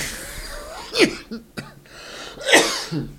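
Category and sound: human body sound, cough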